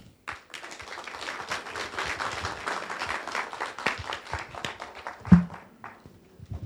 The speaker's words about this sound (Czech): Dámy a pánové, jakákoliv slova jsou zbytečná, tady opravdu jenom je potřeba zatleskat